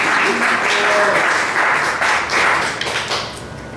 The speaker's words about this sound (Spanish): Y bueno, sí, aplaudan porque si no está feo.